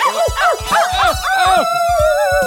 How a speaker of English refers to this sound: These crazy dogs are making me so mad. Tell you what, why don't you eat some treats that are on the ground and I will go get those dogs.